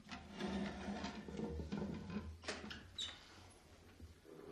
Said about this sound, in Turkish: Aç kızım kapıyı. Sahiden de onlar. Açıyorum.